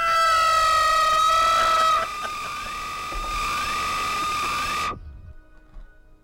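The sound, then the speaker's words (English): A loud, high-pitched siren wails steadily with sliding rises in pitch, sustained for about five seconds before cutting off abruptly, leaving faint background noise. “It sounded like sirens for about 30 seconds straight.”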